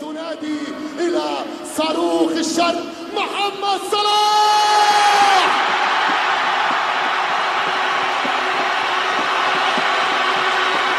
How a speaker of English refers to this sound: In Cairo, Salah got a huge roar from the crowd when he was introduced by the PA announcer at that special training session.